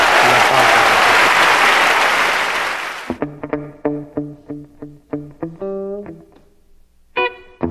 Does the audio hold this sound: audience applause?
yes